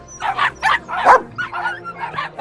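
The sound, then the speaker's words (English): A dog barks repeatedly in quick, yappy bursts after being put in a cage, fairly loud, with short whiny yips between the barks. “Quit your barking.”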